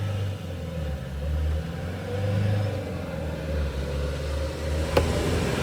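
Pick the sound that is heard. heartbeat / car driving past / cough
car driving past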